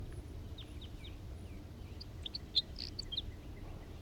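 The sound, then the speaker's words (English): A male crossbill sings a series of short, high chirping notes and trills, fairly faint, with a brighter burst of notes near the end over a steady low rumble. “There's that male singing.”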